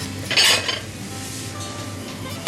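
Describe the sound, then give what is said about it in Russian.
Quiet kitchen handling as food is arranged on a plate: a brief scrape and clink of utensil on dish near the start, soft shuffling, then a light tap at the end. “Так, теперь оформим тарелку.”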